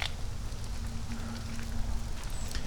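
Steady rain falls outdoors with a dense, even hiss and scattered light patter of drops, continuing unbroken over a low background hum with no voices.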